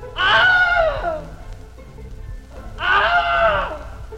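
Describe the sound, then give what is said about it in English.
Two loud, strained screams in quick succession, alternate takes of the stock movie scream known as the Wilhelm scream, first used in 1951, each lasting about a second and sliding down in pitch, separated by a brief pause over a faint hissy background. “And we've actually used these, all three of these last ones, as sort of the official Wilhelm.”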